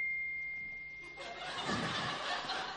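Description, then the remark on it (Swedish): A phone notification ping rings out at a church audience gathering as one steady, high-pitched tone for about a second, then gives way to a louder burst of rustling, snicker-like noise. “Aldrig hört en så hög telefonpling.”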